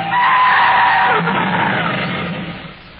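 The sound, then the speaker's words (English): A loud, sustained screech of car tires skidding for about three seconds as another car cuts in front, a harsh squealing whine over rough rumbling noise that gradually fades as the car slows to a stop. “Look out, driver. A car just cut in front of us.”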